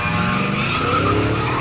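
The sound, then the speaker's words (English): A Kia Optima car roars at full speed down a runway toward a ramp in a stunt meant to dunk over Blake Griffin, while tires screech in a sustained skid, loud, with a steady engine drone and no voices. “The Kia Optima is going to go at full speed down this runway.”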